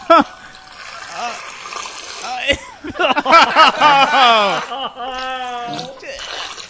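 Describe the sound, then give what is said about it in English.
Liquid pours and splashes in an uneven, bubbly stream, fairly loud, while voices talk and exclaim over it. “Sounds like the sparkless water.”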